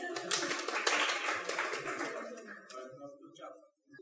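A burst of applause from a small group, dense and crackling at first, then thinning out and fading over a few seconds, with faint voices murmuring underneath.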